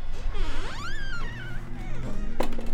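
A wheelchair rolls down a ramp to the door of a unit at the Salish and Kootenai Tribal Housing Authority's Transitional Living Center, with a steady low rumble, a wavering high squeak rising and falling over it, and a sharp knock near the end.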